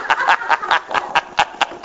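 Water boiling on a little toy stove: a quick, steady run of bubbling pops, about four or five per second, mid-pitched and fairly loud, with nothing else underneath.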